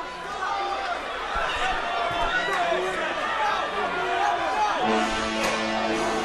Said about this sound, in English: And you hear the crowd. The crowd knows.